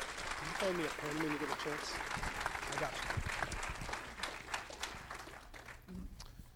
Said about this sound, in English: let's give him a big round of applause and start this thing off.